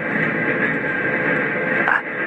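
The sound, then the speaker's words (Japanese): A train rolls along at steady speed while crossing a river, heard from inside as a continuous broad rumble with a thin whine on top, and a brief clank near the end. “川を渡っております。”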